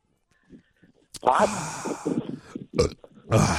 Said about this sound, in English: You know what's great about Sprecher's? It makes you burp.